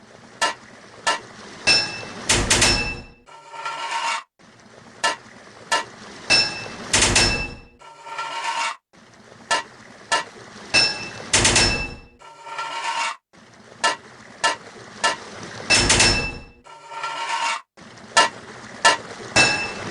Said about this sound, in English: 10 total pipes to fit this level. 3 hits of a hammer to fit a pipe.